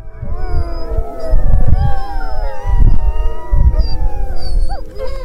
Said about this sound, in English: While there is ice, people go and investigate. Here's a sled dogs on an expedition in April 2007, Woods Hole Oceanographic Institution.